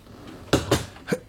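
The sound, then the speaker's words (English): A door is pulled shut, making three sharp, knocking clunks in quick succession, with the last one slightly apart, against a quiet background with no talking. “Come in and close the door.”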